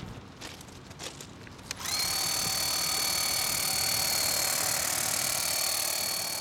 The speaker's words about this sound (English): Every truck is also equipped with a high-pressure washer, so that graffiti on concrete, sidewalks, certain things, we can pressure wash off with a heated high spray water.